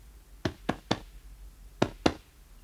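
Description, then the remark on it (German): During a medical examination, a doctor taps five times on a patient's left flank to check for pain: three quick, dull thumps, a short pause, then two more, fairly soft, with no talking. “Wenn ich auf der linken Seite klopfe, tut das weh?”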